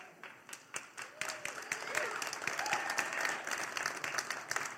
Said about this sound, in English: That was the awkward church clap. We don't do that here, all right? So you're going to clap, clap. If you're not, don't.